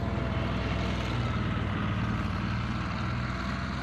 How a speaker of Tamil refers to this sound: Bulldozer சத்தம் கேட்கிறது.